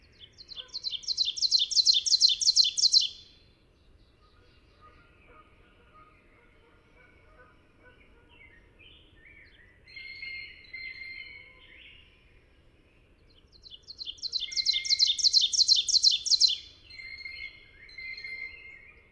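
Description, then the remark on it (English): Two bursts of the primary song of an ovenbird, a forest warbler: ringing, rapidly repeated two-note 'teacher' phrases, each building in loudness over a few seconds, with fainter chirps from other birds in the quiet stretch between. “The oven bird is a forest warbler, named for its oven-shaped ground nest. Its primary song is a ringing, teacher, teacher, teacher, teacher, teacher.”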